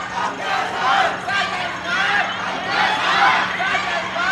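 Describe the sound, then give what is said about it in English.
A large, angry crowd on both sides of a big boulevard on Hong Kong Island yells insults at police standing in the middle, a continuous loud roar of overlapping voices with rising and falling waves of furious shouting throughout. “Crowds on both sides of this big boulevard with the police in the middle yelled all manner of insults at them.”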